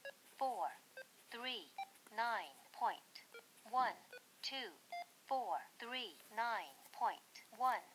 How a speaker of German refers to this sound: Der letzte Ton, als ich die 5 gedrückt habe, war ein bisschen länger. Er ist also jetzt schon auf diese Frequenz gesprungen.